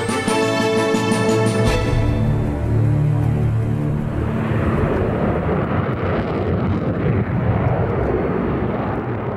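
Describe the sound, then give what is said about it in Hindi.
A Russian military jet roars loudly overhead in the sky over Syria. A brief whining engine tone opens into a dense, rumbling roar that holds steady to the end, with no voices. “रूसी विमान को तो तुर्की ने अब निशाना बनाया है, लेकिन आशंकाओं की आंधी तभी से उमड़ने लगी थी जब इन जंगे विमानों ने सीरिया के आकाश में उड़ान भरे थे।”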